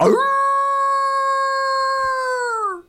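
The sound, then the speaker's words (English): A man imitates a wolf howl, a single loud sustained note held steady for almost three seconds before dipping and trailing off at the end. No other voices are heard. “And when I get there, I'm like, man, I should be howling for the wolves because, you know, there's no hunting on them this fall in Wisconsin.”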